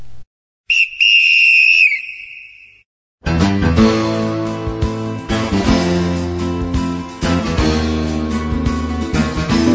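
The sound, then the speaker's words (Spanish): A single long, shrill referee's whistle blast rings out for about two seconds, trilling slightly, blown to start a program, then stops and loud music bursts in right after. “Así que ahora, en este programa suena el silbato y arrancamos con músicas directas al arco del tímpano.”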